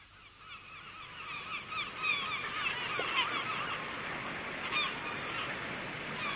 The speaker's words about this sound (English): There are so many more birds.